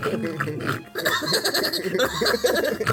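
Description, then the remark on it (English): A person imitates a pig eating, making loud, wet snorting and grunting noises in a continuous burst, with a brief pause before the snuffling resumes. “Show me how a little piggy eats.”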